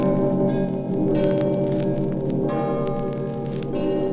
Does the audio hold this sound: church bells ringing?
yes